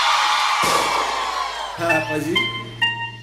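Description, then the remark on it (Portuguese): A crowd of single women scream and whoop loudly, a dense, continuous wall of high-pitched shrieks, with several sustained individual whoops rising out of the din toward the end. “Agora eu só quero escutar o gritinho das solteiras.”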